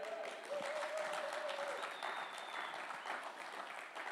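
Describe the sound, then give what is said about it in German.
The Alive Church audience claps steadily throughout, a dense, continuous patter of many hands at fairly even loudness, with a brief sustained tonal cheer rising above it partway through. “Ihr dürft gerne auch klatschen und laut werden bei mir.”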